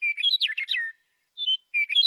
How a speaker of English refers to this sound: That chirping you're hearing right now is the Western Meadowlark. It's one of the sounds that made the Macaulay Library's list of best audio recordings of 2025.